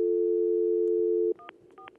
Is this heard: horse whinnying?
no